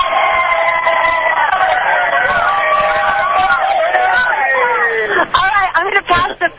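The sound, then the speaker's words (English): A crowd of Ron Paul supporters in Birmingham, Alabama, heard over a phone, cheers loudly, many voices whooping and yelling together in a sustained, rising roar that breaks into choppy, excited shouts toward the end. “Let's listen here a nice big Alabama Ron Paul cheer.”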